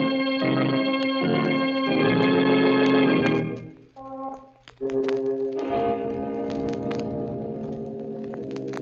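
clock striking twelve

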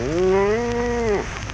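cow mooing

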